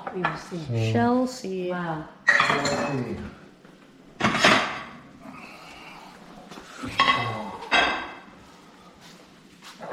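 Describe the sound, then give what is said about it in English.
Pots, pans and utensils clatter in a few sharp, loud bursts as food is pan fried, with a faint sizzle of frying in between. A voice speaks briefly near the start. “Oh, we're pan frying them.”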